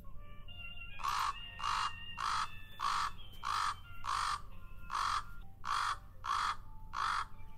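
A common raven gives a rattle call, a series of about ten raspy, throaty croaks in a steady rhythm, fairly loud, with faint background hum and no voices.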